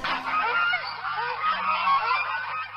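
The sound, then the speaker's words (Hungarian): A flock of geese honks continuously, many overlapping nasal calls forming a dense, steady chorus, with no voices. “Kesen jár, 100 liba egy sorba, mennek a nagy tóra. Megállnak, gágognak, gá, gá, gá, ma sem megyünk világgá.”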